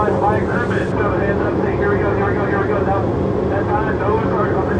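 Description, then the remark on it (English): A loud, steady roar of a C-2 Greyhound propeller aircraft's engine drones without letup, dense, with faint muffled voices buried beneath the noise, heard on board as the plane comes in to land on a ship's flight deck. “The next flight to land is the one I'm on, a C2 Greyhound.”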